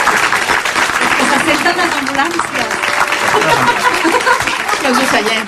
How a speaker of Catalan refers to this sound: Bueno, si volen aplaudir-la, escolti, endavant, eh?